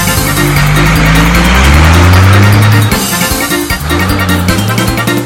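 A loud car engine revs, its low droning pitch climbing steadily for about three seconds, then dropping off before it revs up again. No one speaks.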